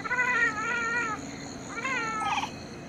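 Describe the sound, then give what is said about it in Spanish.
A leopard cat gives two drawn-out, wavering meow-like calls, each lasting about a second with a short pause between them, fairly loud, with no talking. “Gato leopardo.”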